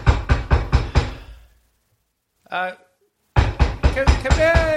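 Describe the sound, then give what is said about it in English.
Five quick, evenly spaced knocks on the door of a home ring out loud, followed by a short vocal sound, then another burst of rapid knocking mixed with voices. “I'm just going to knock on the door because, it is my home.”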